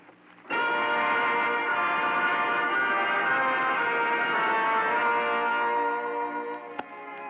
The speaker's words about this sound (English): Tell them to start the meeting house bell ringing and keep it ringing for the rest of the night.